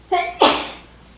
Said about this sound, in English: Bless you.